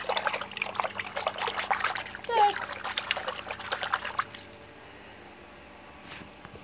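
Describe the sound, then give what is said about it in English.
Water is poured steadily for about four seconds to water a houseplant, a splashy, bubbling trickle that then stops abruptly, leaving quiet background with a faint brief noise near the end. “You can have some of this other water, Dexter.”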